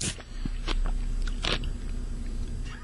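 Loud crunchy chewing picked up at an open microphone, a series of irregular bites and crunches with a low steady hum underneath and no talking.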